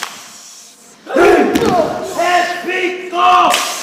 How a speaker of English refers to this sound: And loud chants, elements of an ancient war challenge that represents strength and unity.